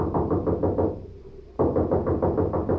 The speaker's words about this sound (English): Here's a knock that ought to bring out the militia.